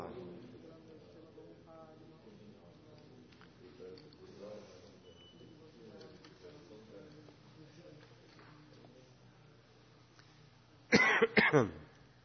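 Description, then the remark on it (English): A stretch of quiet, low murmuring gives way near the end to a quick burst of two or three loud coughs with some throat clearing from a person with a cough and congestion. “I still have a cough and a congestion, but see what happens.”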